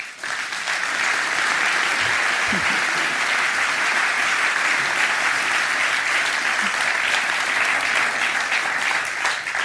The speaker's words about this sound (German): Dein Applaus, wir legen los. Der Saal ist voll. So macht es Spaß. Schön seid ihr alle da.